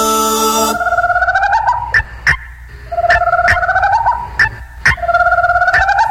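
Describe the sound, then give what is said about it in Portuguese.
Guinea fowl call in harsh, repetitive, rapid bursts, a loud cackling chatter with sharp clicks punctuating it, with no talking. “É a nova onda da coruja e da cocá.”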